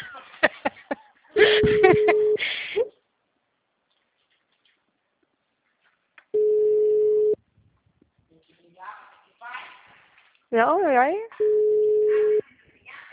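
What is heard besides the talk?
telephone busy signal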